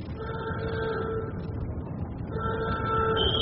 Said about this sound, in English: Sound the alarm.